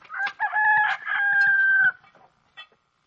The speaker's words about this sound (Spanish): Al momento que vemos al ciego don Amalio haciendo de Jesucristo, escuchamos el canto de un gallo, uno de los símbolos preferidos de Buñuel.